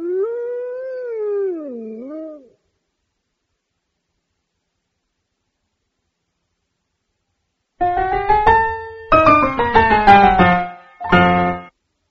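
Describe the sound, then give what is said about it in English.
A wolf gives one long, wavering howl, then after a pause several wolves break into a loud chorus of overlapping howls and yelps in short bursts. “The wolf ate all the sheep.”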